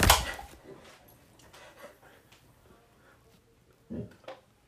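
A beer can is punctured with a sharp burst of fizz for shotgunning, then several seconds of rapid, muffled gulping as the beer is chugged in 4.73 seconds, ending with a couple of louder gasps or clunks.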